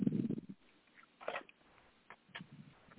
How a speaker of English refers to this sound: Are you eating man? Are you eating man? Yes, sir, yes. Let me swallow this mouthful.